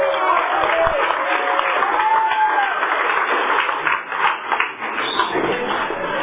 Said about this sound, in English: Please help me and give him a big applause.